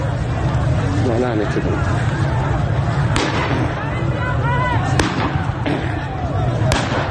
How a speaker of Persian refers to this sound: برخی ویدیوها هم از شلیک گلوله‌های ساچمه‌ای به مردم حکایت دارند.